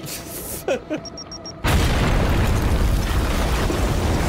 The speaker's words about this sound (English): Precisely, a grenade.